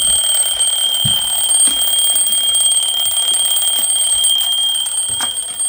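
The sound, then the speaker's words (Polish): An alarm clock rings continuously, a shrill, steady electronic tone that stays loud from start to finish with no pauses and no voices. “Hałas był tak straszliwy, że ludzie wstający rano z łóżek nie mieli nawet szansy, by usłyszeć budzące ich budziki.”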